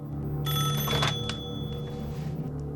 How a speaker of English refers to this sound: A warm red glow floods a narrow corridor, at the end of which a wall-mounted public telephone is ringing.